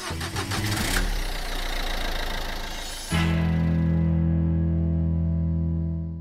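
car engine starting

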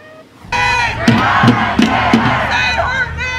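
protest crowd chanting

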